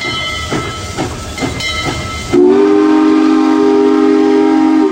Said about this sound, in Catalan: Puja el tren i se'n va directe cap al seu vagó particular. Li queda un viatge llarg fins a casa, a Pittsburgh.